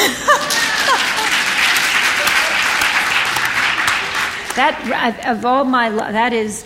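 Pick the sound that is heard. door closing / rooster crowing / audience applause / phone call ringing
audience applause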